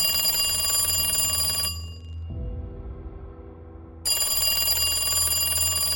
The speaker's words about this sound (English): when the house phone began to ring.